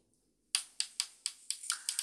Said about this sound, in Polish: No i jak ten pokrętło jest skokowe i też jak je przekręcamy, nie wiem, czy zademonstrować, pokazać, że słyszymy takie kliknięcia też. Może będzie słychać, ja to przybliż telefon.